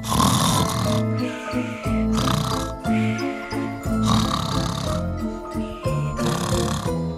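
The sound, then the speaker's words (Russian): Loud, rasping snores repeat in a steady rhythm, each long rattling inhale followed by a softer wheezing breath out, heavy, with no talking. “И когда 12 королевин поднимались утомленные по лестнице, он уже храпел так громко, что все слышали.”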